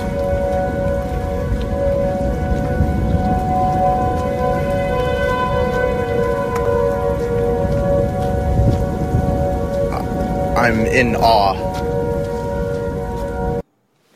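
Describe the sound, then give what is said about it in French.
Four tornado sirens from four neighborhoods, heard from a street at the intersection where they meet, drone together in long, steady overlapping tones over a constant hiss like rain. Near the end a short voice speaks before the sound cuts off abruptly. “Il était donc à portée d'oreille de quatre sirènes anti-tornades, et voilà ce que ça donne.”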